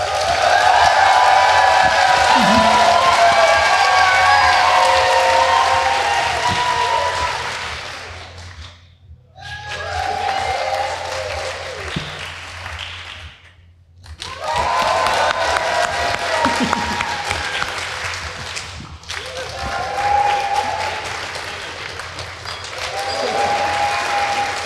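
An audience votes for contestants in a clap-off with sustained applause, cheering and whoops, loud and dense, broken by two short pauses of near silence before the clapping swells up again.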